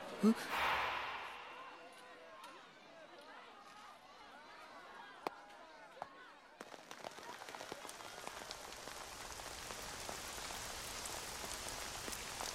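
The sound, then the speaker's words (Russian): Steady rain patters down during school sports competitions, with scattered sharper drops, then swells into a denser, louder downpour about halfway through that continues to the end. “В связи с дождем проведение последующих соревнований обсуждается администрацией школы.”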